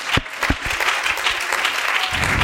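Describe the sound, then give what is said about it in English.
A crowd at a sermon claps steadily for God after being asked to clap their hands unto him, a dense patter of many hands with a few sharper individual claps standing out, sustained at a fairly loud level throughout. “Is there anybody that wants to be found this morning? Clap your hands unto him.”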